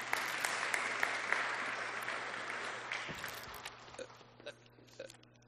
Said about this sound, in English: Well done, guys. Let's give another clap.